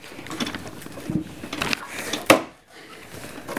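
A small numbered toilet cubicle door inside a bus shuts with a single sharp knock, cutting through a few seconds of faint shuffling and clatter, then all goes quiet.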